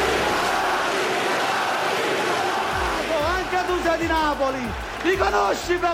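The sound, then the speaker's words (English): A rowdy crowd of suited politicians on the Italian parliament floor roars with overlapping angry shouts of "Thieves!" and yells as punches are thrown and people grabbed, the dense din swelling as individual raised voices cut through in sharp bursts. “On the parliament floor, there are punches being thrown, people being grabbed.”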